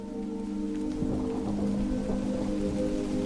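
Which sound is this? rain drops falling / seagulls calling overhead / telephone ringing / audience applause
rain drops falling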